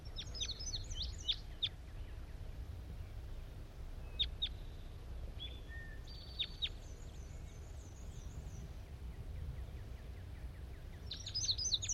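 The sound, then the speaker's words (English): A small wild bird, just caught and measured, gives sharp, high chirps as it is released at 10 a.m. and flies off, in brief clusters near the start, middle and end, over a steady low outdoor rumble with no talking. “now and I'm going to be releasing bird 85.”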